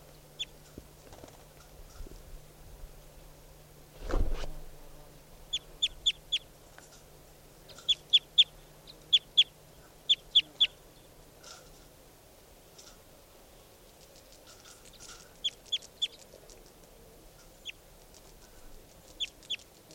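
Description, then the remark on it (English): Bird calls: sharp, high-pitched chirps in quick bursts of three or four, repeated with pauses between groups, over a faint low hum, with one dull thump early on. “Recording bird.”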